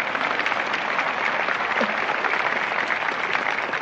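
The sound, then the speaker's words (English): Sustained audience applause for children who have just sung a piece, a dense steady wash of many hands clapping at an even loudness for several seconds, with no talking over it. “You know, first of all, I got to share this applause with them children.”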